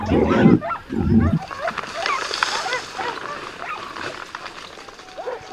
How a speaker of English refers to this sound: One of the most common is called La Montería, like the one we are in now, where it seems like we are in the middle of it. A pack of dogs has found a wild boar that has just run away like a bat out of hell.